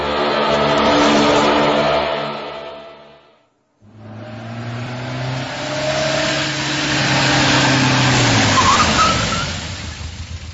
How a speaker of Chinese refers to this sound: 汽车平稳地行驶着，一连过了几站都没有乘客上车